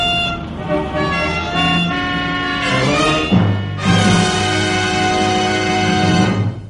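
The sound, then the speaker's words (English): Several car horns blare at once in a loud, overlapping chorus of sustained honks at different pitches, held continuously with a brief dip before swelling again, from drivers held up because the traffic lights have jammed. “The traffic lights have jammed.”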